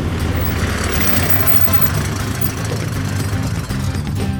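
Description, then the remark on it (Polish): A truck's diesel engine rumbles steadily at idle as it drives up onto a yard to be loaded with five tons of gravel by a loader bucket, a loud low-pitched drone with a faint rhythmic knock running through it, continuous for the whole stretch with no voices. “Ciężarówko, podjedź proszę na plac i ustaw się wygodnie tak, żeby łyżka mogła na ciebie załadować żwir.”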